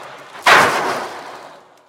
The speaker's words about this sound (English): And it's closed on top and bottom and filled with little BBs. It's supposed to be the sound of ocean waves. Now, the George jumps into a river, so instead I shake it and it makes a splash. It's going to be loud.